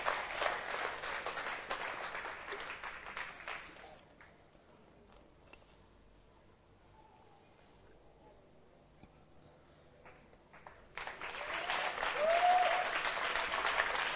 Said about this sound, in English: We all love you. We're happy. They applauded for you.